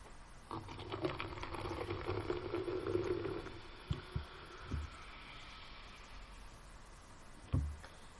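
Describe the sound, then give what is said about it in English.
Soda pours in a steady stream for a few seconds with a faint fizzing hiss, followed by a few soft thumps and a single louder knock near the end. Nobody speaks. “Pick up a little thing here, and I pour. Mostly I do this. Pour the soda.”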